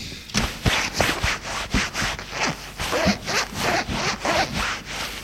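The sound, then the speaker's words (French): Clothes being undone as a man is undressed: a zipper rasps through a quick series of short, scratchy pulls, about a dozen in a rough rhythm, fairly loud with no voices. “Se rue sur lui, le couvre de baisers et le déshabille.”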